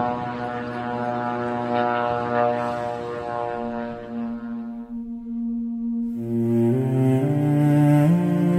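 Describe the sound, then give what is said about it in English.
A loud, continuous engine buzz from military drones overhead, droning steadily with a rich, layered hum that briefly dips and then returns stronger and slightly higher in pitch. No one speaks. “The sound of the drones is quite potent.”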